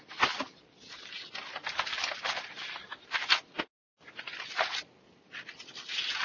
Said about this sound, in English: Sorry for all the shuffling here.